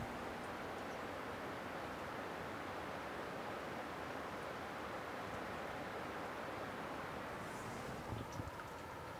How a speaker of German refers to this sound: Also der Bach hört man, aber es ist mega geil. Ja, im Moment ist es wirklich gerade sehr eine ruhige Angelegenheit. Ihr hört das Rauschen vom Bach. Und sonst, wenn wir nicht reden, geht gar nichts. Ein kurzer Moment von der Ruhe auf dem Urner Boden.